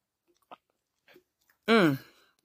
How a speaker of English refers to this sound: Let's take us a sip together, shall we?